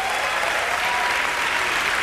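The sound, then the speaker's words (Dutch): A dense, steady wash of audience applause accompanying a music number, many hands clapping at once into a continuous hiss of sound that holds an even, fairly loud level throughout without pauses. “Het nummer, beetje applaus erbij.”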